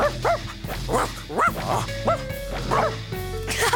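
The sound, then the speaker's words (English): Several dogs bark and yip excitedly in quick, overlapping bursts, fairly loud, with a few higher whimpering notes mixed in over a steady low hum. “I think your dogs want to come too.”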